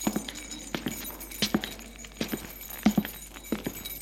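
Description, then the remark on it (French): A bunch of keys attached to a belt jangles as it is taken, a run of small irregular metallic clinks and rattles with a faint ringing shimmer, lasting a few seconds with no one talking. “Madame Pic prend son trousseau de clés, qui est attaché à sa ceinture.”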